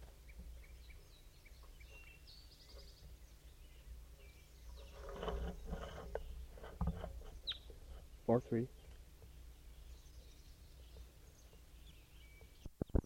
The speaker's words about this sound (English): Recording, there's a wild crossbill around here.